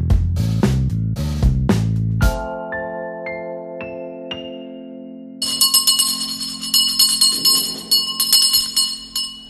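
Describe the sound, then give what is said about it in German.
A bell rings out loudly, struck several times, then shaken in a quick series of bright, lingering clangs that blend into a sustained shimmer, rung to rouse everyone when the food is ready. No one speaks. “Ja, und zwar ist die Glocke dafür da, alle aufzurütteln, wenn das Essen dann auch wirklich fertig ist.”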